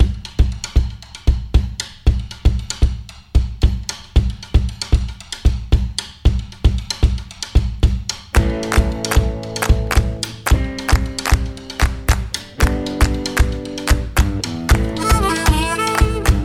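A recorded gospel-based country-style duet plays loudly, opening with crisp, steady percussive taps alone before sustained melodic instruments join about halfway through and carry the tune to the end; the piece features a slide guitar solo.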